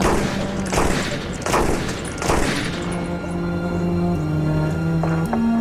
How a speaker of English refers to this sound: pulled out her .38 caliber revolver and emptied it into